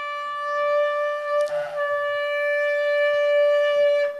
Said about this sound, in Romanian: Un sunet lung care aduce alarmă, dar sunetul trâmbiței trebuie să indice disciplină, trebuie să ai disciplină.